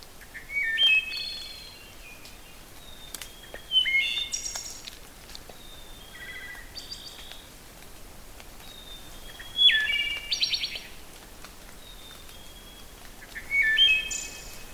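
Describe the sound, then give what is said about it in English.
A wood thrush sings alone, delivering clear flutelike phrases ending in fluttery trills, repeated every few seconds over a quiet background. “When the wood thrush is on territory and really cranked up, they have, I think, the most complex of the thrush songs.”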